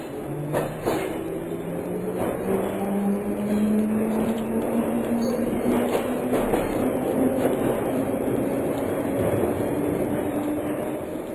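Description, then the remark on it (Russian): A train pulls away from a station, its low engine tone rising steadily in pitch as it gains speed, with a continuous rumble and faint rail clatter. No one speaks. “Еще мгновение, и поезд тронулся.”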